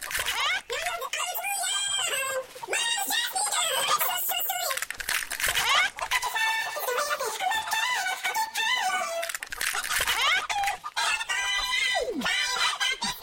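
A flock of chickens clucks and squawks almost without pause, several birds calling over one another in a busy henhouse yard.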